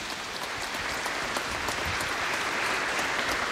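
Steady audience applause, a dense, even crackle of many hands clapping at once, holding at a constant moderate level throughout with no voices over it.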